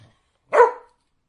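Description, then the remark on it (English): A single short, high-pitched dog bark with a bright, tonal quality, sounding friendly and upbeat, heard alone against silence. “That's like the happy, friendly bark.”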